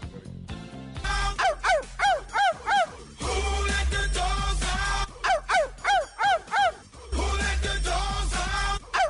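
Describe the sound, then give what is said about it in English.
A barking sound effect: two quick runs of sharp, loud barks, about five to six each, separated by a brief pause, with a low steady droning bed underneath throughout. “You know, where she was barking and everything.”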